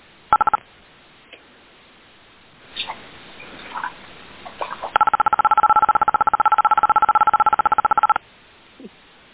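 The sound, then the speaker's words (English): Telephone keypad tones come through a narrow phone line on a conference call: a short burst of beeps, a pause with faint noise, then a long, rapid string of steady dual-pitched beeps before it stops. “I hear beeps.”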